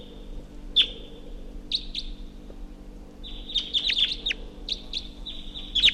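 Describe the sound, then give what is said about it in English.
Sharp, high chip notes from a crossbill coming in, recorded at 7:23 a.m., a few isolated calls early on, then a quicker run of repeated calls, over a steady high hiss and low background hum, with no talking. “Haven't been any crossbows around for a while, but now one's coming in.”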